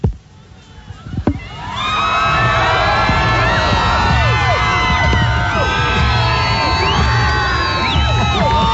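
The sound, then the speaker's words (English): A large crowd of fans waiting in a line erupts into loud, sustained cheering and high-pitched screaming as a celebrity walks around across the street, with many overlapping excited shrieks and whoops after a brief quieter moment. “Oh, they're freaking out.”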